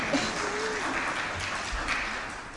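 A round of applause: dense, crackling clapping from a group that holds at a steady, even level for a few seconds without building or fading.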